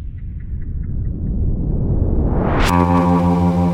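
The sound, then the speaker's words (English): A loud, low rumbling hum swells steadily, rising in a sweeping whoosh before settling into a steady, buzzing droning tone with no voices present. “I agree to look into this hum”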